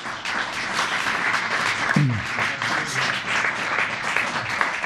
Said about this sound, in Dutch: Alleen welkom maar allemaal, groot applaus.